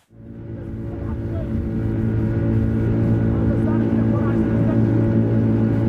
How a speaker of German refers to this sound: Der Motor dröhnt. Das kippelige Holzboot von Ahmed schießt mit einer beängstigenden Geschwindigkeit über das braune Wasser